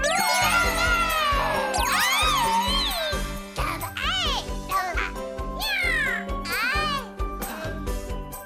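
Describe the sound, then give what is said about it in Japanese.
A cat meows over and over, high-pitched, its cries overlapping in quick succession above a bright, tinkling musical backdrop that plays steadily throughout. “どうしたのあの猫。”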